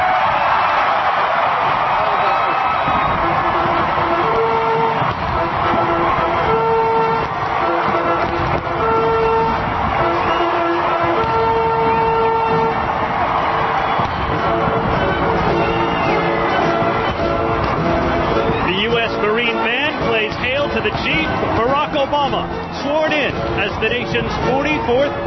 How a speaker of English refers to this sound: He waves to the crowd from the balcony of the west front of the Capitol. His daughters Sasha and Malia waving too. His wife Michelle Obama is there, and an enormous crowd in front of him on the National Mall cheers and waves flags, the 21-gun salute.